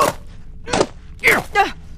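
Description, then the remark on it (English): Heavy hiking boots, Boulder Buster marching hiking boots and size 8 military issue Bartos, stomp down hard on something to smash it, four loud thuds in an uneven rhythm, the last two landing in quick succession with a strained, groaning edge. “Oh, I see one. Stomp it!”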